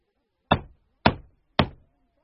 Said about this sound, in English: The wolf runs to Grandma's house. He knocks on the door of Grandma's house.